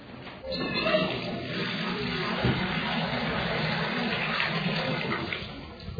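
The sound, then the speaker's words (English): Water rushes and gurgles in a steady, continuous stream, a full hissing wash of sound that holds at an even loudness for the whole stretch with no voices over it. “If you listen, you can hear this water singing.”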